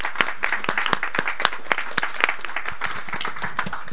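Steady audience applause congratulating the author of a text that was read, filling the whole stretch, a dense patter of many hands clapping with sharp individual claps popping out, no voices over it.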